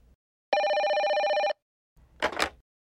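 A mobile phone rings once, a bright trilling electronic burst lasting about a second, followed by a short pause and then a brief rustling clatter, like the handset being picked up.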